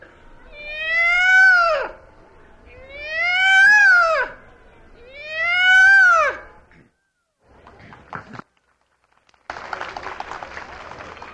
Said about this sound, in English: On television, you have the peacock. It's a beautiful bird, but he wouldn't be too much to have around your house, because I know if any of you's ever been around where they are, they're quite noisy.